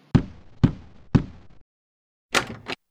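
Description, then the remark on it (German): Three firm, evenly spaced knocks on a woman's door in the morning, fairly loud, followed after a short pause by a brief scraping, rustling noise. “Am nächsten Morgen klopft es plötzlich an ihrer Tür.”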